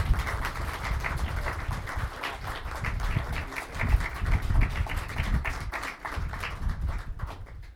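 A crowd applauds the parish priest steadily, dense overlapping claps sustained at an even loudness for several seconds, with no voices standing out.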